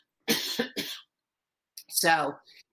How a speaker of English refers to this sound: Okay. Excuse me. I have to cough for a second.